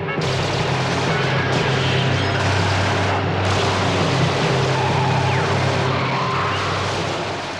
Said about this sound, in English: Machine guns peppered the car with over 100 bullets. The attack was organized by ultra-right-wing opponents of the recent independence of Algeria.